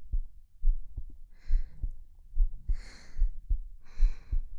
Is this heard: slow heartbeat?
yes